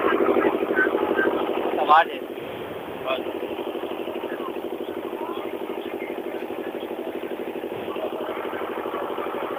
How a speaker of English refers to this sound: we just wait for the boat because there's the engine over here where we're standing. Making a lot of noise